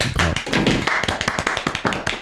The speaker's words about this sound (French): Mais en réalité, ce vote fait avancer la cause et met en lumière les violences psychologiques, morales et sexuelles que les femmes subissent. Et ça, ça s'applaudit.